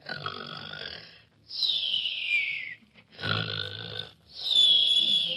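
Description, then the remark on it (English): A contestant in a snoring contest imitates loud snoring: two rounds of a rough, rattling snort, each followed by a high, sliding whistle on the breath out. “You snore at home?”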